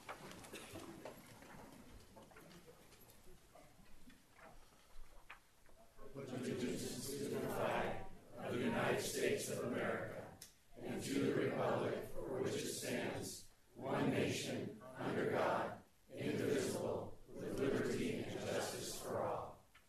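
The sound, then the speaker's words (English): After a few seconds of quiet rustling, a large group of people at a commission meeting, asked to stand, recites the Pledge of Allegiance together in unison, their voices rising and pausing in steady, measured phrases. “We will now recite the Pledge of Allegiance. Please stand.”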